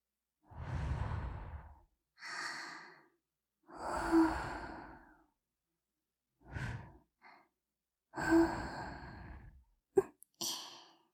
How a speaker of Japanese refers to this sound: 息吹きかけられてじらされるの、嫌いじゃないですよね。